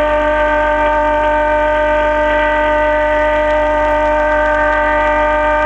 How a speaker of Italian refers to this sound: Ecco, ma adesso sentite i suoni della... tutti i suoni delle barche.